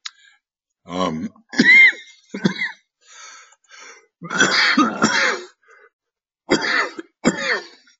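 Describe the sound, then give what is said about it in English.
A loud coughing fit of harsh, repeated bursts broken by short pauses, mixed with rough throat clearing, heard on its own without speech. “I'm sorry for that little coughing fit there.”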